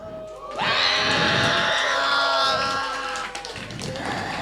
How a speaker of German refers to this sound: Schreit mal, vielleicht sieht man dann etwas.